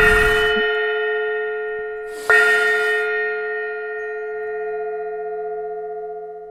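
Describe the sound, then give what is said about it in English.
A meditation gong is struck twice, about two seconds apart, each hit ringing out in a long, steady, shimmering tone that slowly fades; no voices are heard. “No gong for exhale?”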